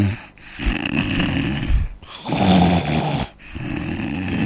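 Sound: loud snoring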